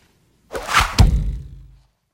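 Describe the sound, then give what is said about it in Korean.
A single golden arrow shot from a bow at a flying swan swishes through the air and lands with a sharp, heavy thud, the impact ringing briefly before fading. No voices are heard. “소유는 허리 사이에서 천자가 주신 보궁과 금비전을 빼내어 몸을 기울여 화살 한 방을 날린다.”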